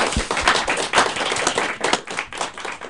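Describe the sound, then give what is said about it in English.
A live audience at a recording of the radio show Voices in the Family applauds itself steadily, a dense wash of many hands clapping at once with sharper individual claps popping through, holding a fairly even loudness for about three seconds. “Give yourselves a round of applause here.”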